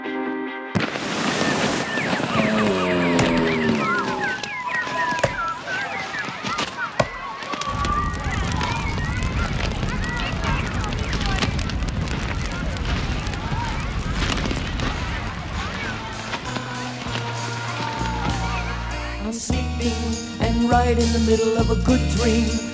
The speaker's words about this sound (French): On est où là avec ce feu qui crépite? On est à Zeno. Zeno c'est où? C'est quoi? Zeno c'est Zeno Mountain Farm pour le nom complet. C'est dans le Vermont aux États-Unis, à une heure au sud de Burlington.